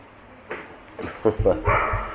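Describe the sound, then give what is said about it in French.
A dog barks and yips in a quick, uneven series of short bursts, moderately loud, with a voice talking faintly underneath. “Mais quelqu'un pourrait jeter un caillou à ce chien?”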